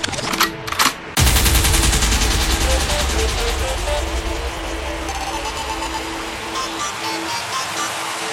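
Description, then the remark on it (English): A few sharp gunshot effects crack out at the start, then give way to a dense, roaring burst like rapid automatic fire that continues loudly under a busy, sustained wash of noise. “Record means rewind, a gunshot means forward.”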